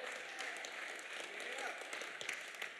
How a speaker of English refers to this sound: Don't applaud for me. I did very little.